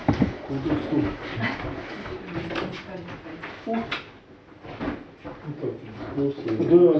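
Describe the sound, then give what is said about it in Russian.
A chair scrapes and drags across a hard floor in a few rough pulls as someone pulls it, while muffled voices murmur around it. “Потянул стул.”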